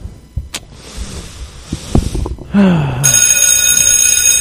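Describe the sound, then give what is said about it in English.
A loud, shrill bell starts ringing partway through and rings continuously to the end, after rustling noise, a few sharp knocks and a short falling tone. “It's Saved by the Bell.”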